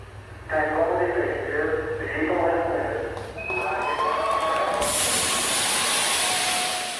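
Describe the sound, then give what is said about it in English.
A crowd of voices cheers and shouts in Purdue University's Armstrong Hall of Engineering. Then air cannons fire a loud, sustained hissing blast of air that roars on over the continuing cheers, marking the moment of the Apollo 11 moon landing 50 years earlier. “Cheering erupts and air cannons go off, marking the exact moment Armstrong and Buzz Aldrin landed on the moon 50 years ago.”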